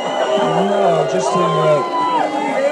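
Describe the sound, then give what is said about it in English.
A London audience at the introduction of the 2004 movie The Libertine, asked whether Donald Trump could be brought there, erupts in a mixed reaction, cheering and booing at once, a dense, loud swell of overlapping voices with long drawn-out jeers running through the shouts. “And they kind of cheer and boo at the same time.”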